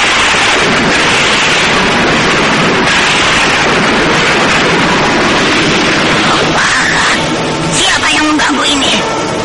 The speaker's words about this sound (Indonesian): Suara petir menggelegar dengan tiba-tiba, disertai hembusan angin yang dahsyat.